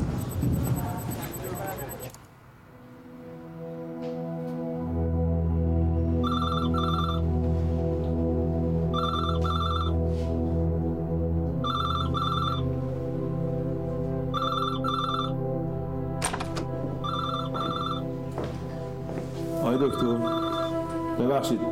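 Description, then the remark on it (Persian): A phone line rings out repeatedly on an outgoing call, about six evenly spaced ringback tones, steady and moderately loud, over a low sustained musical drone. “چند بار دیگه هم تماس گرفته بودم.”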